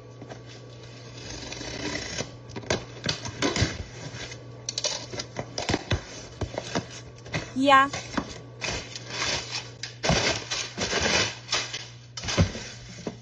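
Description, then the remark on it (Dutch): A parcel received in the post being unpacked, believed to hold merchandise ordered from the speaker's company, with company branding on it: bursts of crinkling and rustling packaging, a rising tearing sound midway, and irregular handling noises over a steady low hum, with one short word spoken. “ik heb net een pakketje in de post gekregen en ik weet vrij zeker dat het merchandise van mijn bedrijf is die ik heb besteld.”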